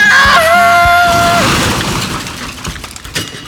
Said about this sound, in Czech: Řidič při návratu z dovolené od moře podcenil únavu a ve snaze dojet poslední kilometry domů bez přestávky při řízení vozidla usnul. Sjel ze silnice a narazil do stromu.